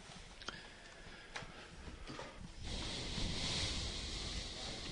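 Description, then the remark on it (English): Wind buffets a microphone at a baseball game, a steady rumbling hiss with a few faint ticks early on, then the gusting swells louder and fuller for the final couple of seconds. No voices are heard. “It's been windy the entire game.”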